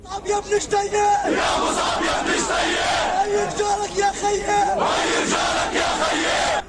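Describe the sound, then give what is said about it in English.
A large crowd of protesters shouts and chants in unison in the streets across the occupied West Bank and the besieged Gaza Strip, protesting Israel's deadly raid on Nablus, voices rising in loud, rhythmic waves with brief dips between phrases, sustained and dense throughout. “Thousands have poured into the streets across the occupied West Bank and the besieged Gaza Strip to protest Israel's deadly raid on Nablus.”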